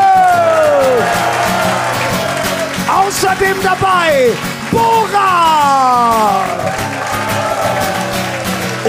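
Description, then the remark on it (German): A live audience at the comedy show Nightwash Live cheers and applauds loudly and continuously for the performers on stage, the dense crowd noise filling the background while an announcer's amplified voice rings out over it. “Alle bekommen einen fetten Applaus von euch.”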